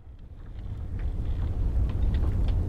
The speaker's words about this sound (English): How about the thumming engine of an icebreaker trapped in a snowstorm?